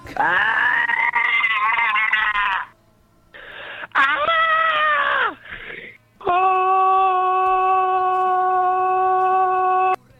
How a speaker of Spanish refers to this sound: Esto es gente que ha llamado al teléfono de los gritos. Esto no son seres humanos. No son seres humanos.